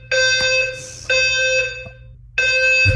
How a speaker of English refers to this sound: Do I have any legal rights to the f-ing fire alarm going off in the middle of the night all the time? Like, this is actually insane.